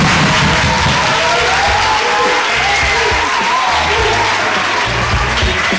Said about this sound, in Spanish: Mucha gente guapa, muy simpático y además, para ser la hora que es, bastante ruidoso, porque yo creo que si le pedimos otra vez otro aplauso, ¿nos lo darán o no? Yo creo que sí, ruidoso, despiertos.